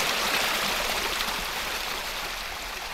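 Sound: water flowing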